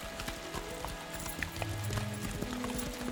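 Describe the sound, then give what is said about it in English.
Horse hooves clatter in a quick, steady clip-clop rhythm, several horses galloping toward the drawbridge of the Tower of London, with a low tonal hum underneath and no voices. “The horses galloped toward the drawbridge where a dozen metropolitan police carriages were already parked.”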